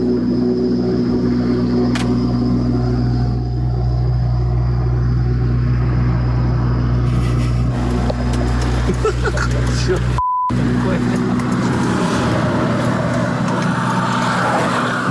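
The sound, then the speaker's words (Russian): A diesel car engine idles steadily after starting, with the hood open in minus 28 degree frost, as it pumps diesel through the system. It makes a deep continuous rumble with a low droning hum. Muffled voices come and go over it, and a brief cut with a short beep interrupts partway through. “О, заработал. Что он такое делает? Соляру прокачивает систему.”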